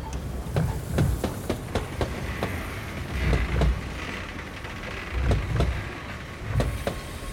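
A train rolls steadily along the rails, its wheels clacking over track joints in repeated paired beats beneath a continuous low rumble, with no voices present.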